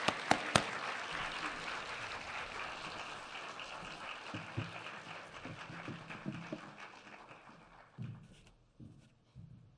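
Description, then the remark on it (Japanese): An audience at a church gathering claps steadily for several seconds to welcome a speaker, a dense crackle of many hands that gradually thins out and fades near the end. “では先生を拍手を持ってお迎えしますよ。”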